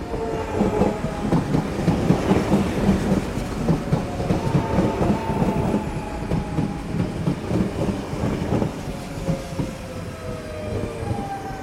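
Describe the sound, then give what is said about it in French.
A train rumbles and clatters steadily over the rails at a large Paris train station, loud and continuous, with thin metallic whines sliding slowly downward in pitch as it goes by. No one speaks. “Le décor représente la salle d'attente d'une grande gare parisienne avec un banc, deux haut-parleurs et une grosse horloge dans le fond.”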